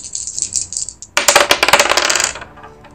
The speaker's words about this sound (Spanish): Entonces, tirás los dados. Dos de proeza, uno de éxito.